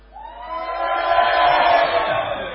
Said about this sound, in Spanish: Sí, sí, gritos de terror. Gritos de terror.